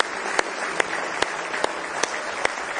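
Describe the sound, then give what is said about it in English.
A crowd claps in praise together in a steady rhythm, sharp unified hand claps landing about every half second over a continuous wash of scattered applause, full, with no talking. “Give Him one more hand clap of praise if you love Him tonight.”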